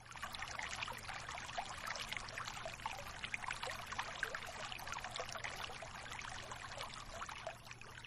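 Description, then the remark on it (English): Steady trickling water flows continuously, a bright, splashy babble that stays even in level throughout, fairly loud, with no voices. “Just keep bringing your attention to the sound of the water.”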